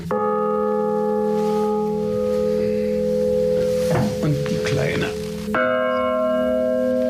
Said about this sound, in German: Drei Glocken hat die Kirche. Die älteste ist 1465 gegossen worden.